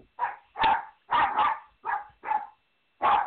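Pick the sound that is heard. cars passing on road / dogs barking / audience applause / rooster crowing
dogs barking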